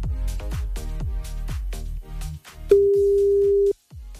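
A thumping music bed with a steady beat gives way to a single, loud, steady electronic telephone ringing tone lasting about a second as a Hitradio Antenne 1 call to a listener in Bad Urach connects, then a brief hush.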